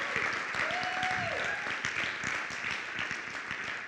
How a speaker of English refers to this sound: Round of applause. So good. So good.